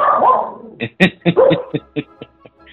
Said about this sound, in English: He just, everybody every time you say 50, he seems to bark. You know what I'm saying? See, did it again.